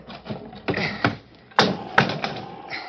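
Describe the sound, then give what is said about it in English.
A trap door to the roof, at the top of a ladder, is shoved open with a series of solid wooden thumps and knocks, five or six irregular hits with a creaky rattle between them, and no voices. “Wait till I get the trap door open.”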